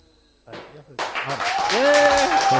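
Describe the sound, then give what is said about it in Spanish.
Over a phone line, a crowd of residents of Becerril de Campos in a bar bursts into loud, sustained applause for COPE's radio broadcast El Partidazo, mixed with shouting and cheering voices, building steadily after a brief burst of noise at the start. “Si me estáis escuchando, vecinos de Becerril de Campos, aplaudid al partidazo de COPE.”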